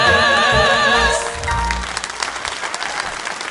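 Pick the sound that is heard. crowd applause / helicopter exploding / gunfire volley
crowd applause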